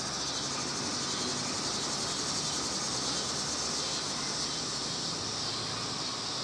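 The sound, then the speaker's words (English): Annual cicadas drone in the middle to end of summer, a continuous, dense buzz that fills the whole stretch without pause, a steady shimmering chorus with no voices. “Those are the annual cicadas you hear.”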